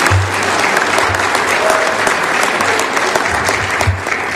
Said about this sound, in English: Let's give the Lord another hand clap of praise this morning.